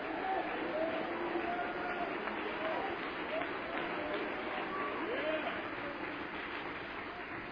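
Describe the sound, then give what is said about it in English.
An audience at a pastor's sermon claps steadily and loudly for several seconds, a dense, even wash of hand claps that fades slightly toward the end, with faint voices mixed into the crowd noise. “No more clapping from this moment forward.”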